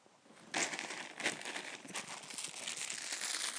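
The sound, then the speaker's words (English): A plastic bag crinkles and rustles, starting abruptly after a brief quiet moment and continuing as steady, irregular crackling handling noise with no talking. “Plastic bag, not going.”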